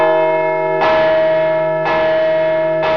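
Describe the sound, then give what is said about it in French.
A large work bell, rung to impose the same working time on all workers, tolls in a steady rhythm, three strikes about a second apart, each ringing with a rich, sustained metallic hum that overlaps the next. It sounds loud, with no voices. “L'idée est bien d'imposer un temps de travail, et le même pour tous, à travers ces cloches de travail.”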